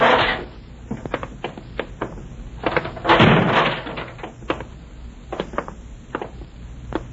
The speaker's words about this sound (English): In here. Through this fire door.